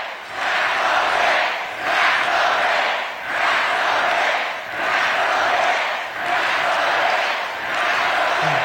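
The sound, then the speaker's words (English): A large crowd chants loudly and steadily at a rally as Hochul takes the stage, the massed voices rising and falling in a regular pulse about once a second, sustained for the whole stretch. “But when she took the stage, the crowd started chanting.”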